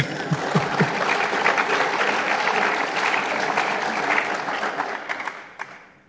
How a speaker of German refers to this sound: Und ja, das ist ein Applaus wirklich wert.